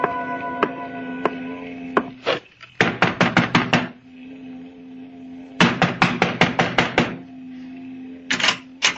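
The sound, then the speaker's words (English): Loud, rapid knocking on a door in several bursts of five or six sharp raps each, separated by short pauses, over a steady low hum with no talking. “You knock too loud”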